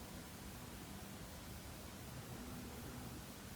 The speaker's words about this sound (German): Du hörst das sanfte Rauschen der Wellen.